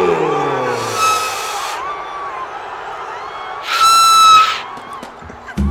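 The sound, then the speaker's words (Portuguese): A stadium horn lets out two short, strained honks, a weaker one and then a louder, buzzier one, before sputtering and cutting out into quiet background noise. “A corneta do Tucano morreu, cara.”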